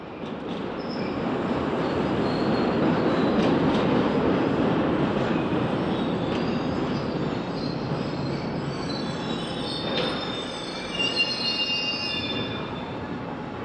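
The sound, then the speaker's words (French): A steam train rumbles along steadily with a dense, loud roar, while high-pitched wheel squeals streak over it, sharpest toward the end. No one speaks. “Toute l'échelle sociale parcourait le monde du train-vapeur.”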